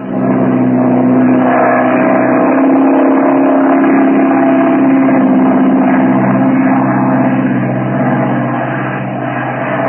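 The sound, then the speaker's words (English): A propeller airplane engine on the Merrill-Lamby flight drones loudly and steadily for the whole stretch, a deep harmonic hum with slight wavering that eases off just a little near the end. No one speaks. “Let's get in the plane.”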